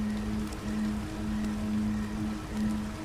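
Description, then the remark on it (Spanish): A steady, continuous rush of a flowing stream of water with a fine splashing, bubbling texture, holding an even level throughout, with a faint low hum running underneath. “Y el sonido de una corriente de agua también se manifiesta en tu atención auditiva.”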